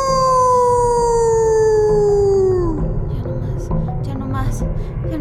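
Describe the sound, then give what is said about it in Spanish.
A wolf lets out one long, loud howl that slides slowly downward in pitch for about three seconds, clear, before it breaks off into a busy jumble of background noise. “Cruzar el bosque era muy peligroso, ya que siempre andaba acechando por allí el lobo.”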